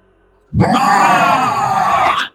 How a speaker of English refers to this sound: Behind her, the monstrous being roared in frustration. She could sense it speeding up.